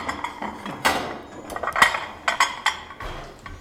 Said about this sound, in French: Bah, je dresse la table pour les gens qui arrivent ce soir.